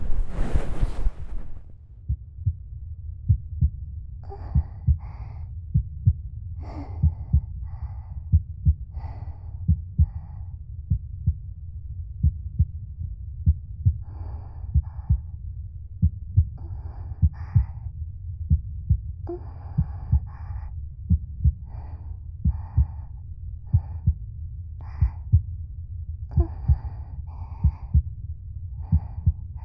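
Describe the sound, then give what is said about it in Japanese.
A muffled human heartbeat thumps steadily and low, with soft rhythmic pulses under a faint rushing, breathy background noise. “ほら、もう一度私の心臓の音聞いてよ。”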